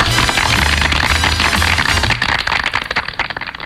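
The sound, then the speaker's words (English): A burst of dense, crackling clapping, loud and steady at first, then thinning into scattered individual claps over the last second or so. No voices are heard. “please clap.”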